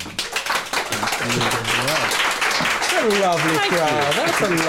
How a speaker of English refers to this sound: Please give Donald a huge hand to welcome him.